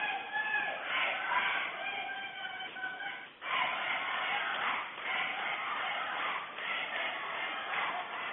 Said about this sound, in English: Girls are out there giving the chant.